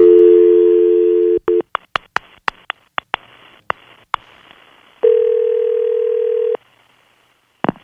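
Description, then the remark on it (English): A steady telephone dial tone, then a quick irregular string of short dialing beeps, followed by a long ringing tone, all loud with no talking. “We're going to call up now.”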